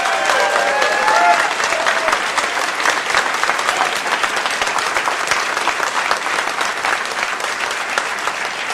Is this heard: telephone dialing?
no